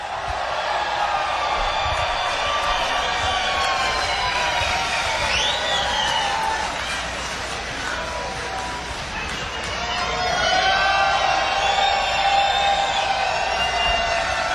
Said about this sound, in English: Would you please give them a nice round of applause here at WNCW's Christmas Pre-Jam? Please give it up for the best damn band on the planet